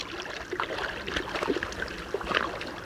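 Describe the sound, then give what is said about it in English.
Three moose, a large female and her two young, splashing through shallow water of a Wasatch Mountain lake in Utah on a cool July morning, a steady churn of irregular sloshes and sprays, moderately loud, with no voices over it. “On a cool July morning, three moose frolic in the waters of a Wasatch Mountain lake in Utah.”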